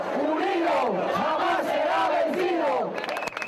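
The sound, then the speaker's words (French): A crowd of indignados protesters chants in unison at the gates of the Congress on Thursday, voices rising and falling in a steady rhythmic cadence, loud and sustained before trailing off at the end. “C'est justement ce que craignent les indignés venus protester jeudi aux portes du Congrès.”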